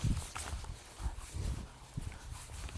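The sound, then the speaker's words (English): Horses shift about outdoors in a field by Derwent Water on a clear, blue-sky morning, with soft irregular hoof thuds and low rustling on the ground, a steady murmur of open-air noise behind, and no one speaking. “The horses are more understanding of the dog.”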